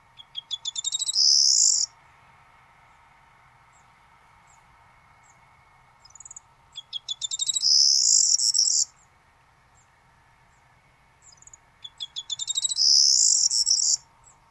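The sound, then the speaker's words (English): A bird sings three loud phrases of high, jangling, key-like song, each a stuttering start building into a bright rattling trill, spaced about six seconds apart over a faint steady background hum. “Yeah, you hear that the jangling keys is a description.”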